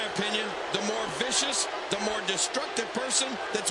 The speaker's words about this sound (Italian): Full Nelson Slam da parte di Vader ai danni di Earthquake.